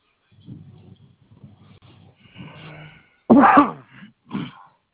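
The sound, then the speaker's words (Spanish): After a few seconds of faint, muffled murmuring, a single loud sneeze bursts out, followed a moment later by a shorter, softer burst. “Salud.”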